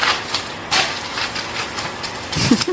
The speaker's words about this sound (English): At first, they looked like they were leaving, but then their engines became super loud.